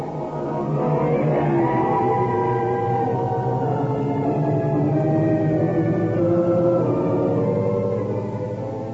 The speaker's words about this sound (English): we bring you the tops in Spine Chillers. The creaking door.